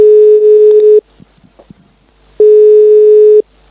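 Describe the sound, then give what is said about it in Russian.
A telephone ringback tone heard while a call is placed: two loud, steady one-second beeps separated by a short pause of faint line noise, with no one talking. “Ну, сейчас я позвоню Грише и обсужу с ним этот вопрос.”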